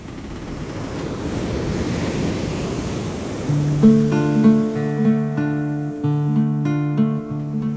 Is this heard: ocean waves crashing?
yes